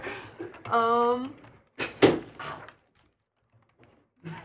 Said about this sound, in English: falling off a chair.